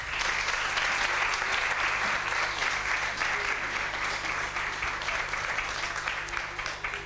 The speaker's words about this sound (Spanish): Fotografía de familia con nuestras siete protagonistas de la gala del arte de nuestras fiestas 2024. De nuevo, ovación para ellas.